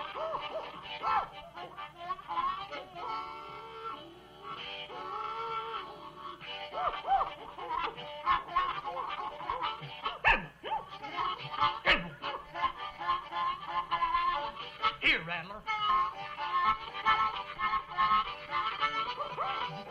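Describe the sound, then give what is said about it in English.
A pack of hounds, with a strike dog, bays on the trail, long drawn-out howls and yelps overlapping almost continuously for the whole stretch, fairly loud, with no one talking. “Down here, I suppose they say just sit back and take a swig and say, listen to that old strike dog go.”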